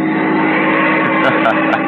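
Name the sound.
car driving at speed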